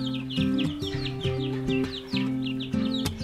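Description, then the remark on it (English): Chickens of a rare breed, newly brought to a homestead, cluck in a quick, steady stream of short, repeated calls, layered over a sustained tonal background that sounds like music. No one speaks. “While you're waiting for us to settle in, enjoy as my son tells you about his brand new breed of chicken that we brought to the homestead.”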